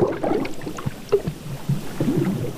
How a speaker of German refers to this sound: Ein Ruck ging durch das Boot, als etwas dagegen stieß. Es schwankte. Wasser schwappte über den Rand. Und dann sank das Boot unter ihren Füßen in die Tiefe.